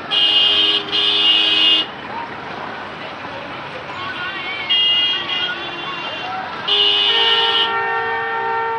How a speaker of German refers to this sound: Am Morgen waren wir in Karachis Verkehrschaos losgefahren.